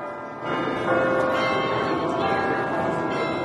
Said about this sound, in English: And then to hear the merry bells peal out from the church steeples.